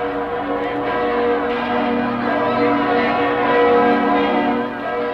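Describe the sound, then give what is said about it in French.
Church bells peal together to celebrate a victory in a dense, continuous wash of overlapping tones, ringing loud and steady throughout in a festive, celebratory clamor with no voices. “Mes amis, les cloches de la victoire.”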